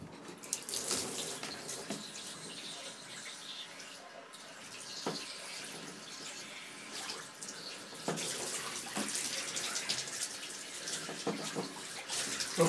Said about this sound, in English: I've got to do something to cool down. I'm just going to douse my hair in cold water for the third time. For the hat trick!